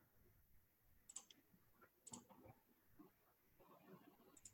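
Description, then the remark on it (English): Someone taps the escape key on a keyboard several times to try to stop a recording: about four sharp, fairly quiet clicks spaced a second or so apart, over a soft murmur of background voices. “I'm just trying to stop the recording, that's all. Hitting escape like a madman.”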